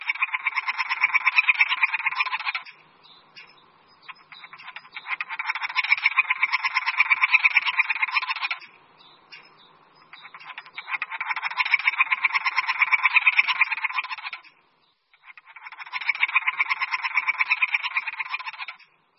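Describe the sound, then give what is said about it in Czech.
A three-toed woodpecker gives hoarse, buzzy courtship calls in four drawn-out rasping bouts of about two to three seconds each, separated by brief pauses, with no voices present. “V toku se navíc datlík občas ozývá chraplavým vábením.”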